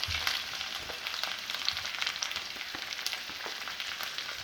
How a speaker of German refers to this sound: Okay, die Erdäpfel sind in der Pfanne drinnen. Perfekt.